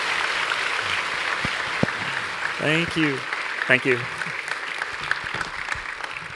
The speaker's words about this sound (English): Giving a round of applause to the entire production team.